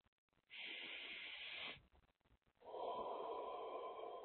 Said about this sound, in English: So I invite you to get comfortable, close your eyes, and take a few long, slow, deep breaths.